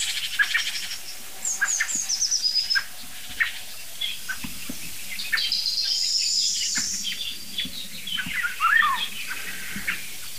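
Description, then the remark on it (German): Soft, short tuck calls of a blackbird that is just flying in repeat at irregular intervals outdoors, while other small birds chirp and trill at higher pitch in the background. No one speaks. “Da kommt gerade eine Amsel angeflogen. Das weiche Duck ist von der Amsel.”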